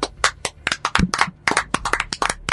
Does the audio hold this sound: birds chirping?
no